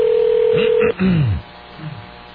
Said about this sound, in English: Is this her cell phone? No, it's home. Now, is she at home? I don't know. Now, are you dialing home because you know no one will be there? No, I'm thinking she might be there.